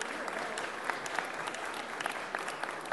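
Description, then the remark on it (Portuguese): A crowd of people applauding steadily for a band, a dense wash of overlapping claps with a few sharper hand strikes standing out, sustained at a fairly even level throughout. “Ali, está todo mundo ali, ó, uma sala de palmas aqui, ó.”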